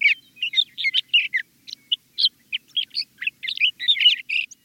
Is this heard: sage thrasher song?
yes